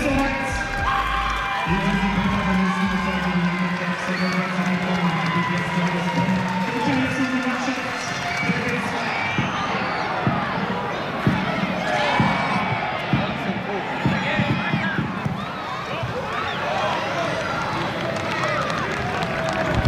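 A crowd of about 2,000 WSV fans at the Stadion am Zoo roars and chants continuously during a Saturday Regionalliga football match, with sustained singing tones early on, then a dense wash of shouting, clapping and cheering that stays loud throughout.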